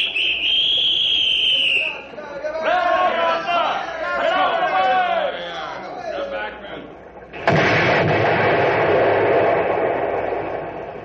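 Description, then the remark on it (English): A high warning whistle sounds, then excited voices shout before a sudden loud blast erupts as explosives on a timer blow up a pile of logs, followed by a long roaring wash of noise and falling logs and debris that slowly fades. “All we did was blow a few of them top logs off the pile.”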